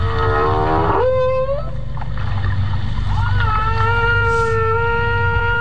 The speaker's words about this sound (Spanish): Y hay cosas que aún no sabemos sobre los cantos de las ballenas. Los llamamos cantos porque las ballenas emiten vocalizaciones con una frecuencia regular, con frases de 4, 5 o 6 vocalizaciones en bucle durante 15 o 20 minutos.